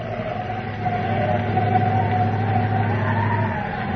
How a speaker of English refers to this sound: Nothing but dust, dust, and more dust. That wind howling.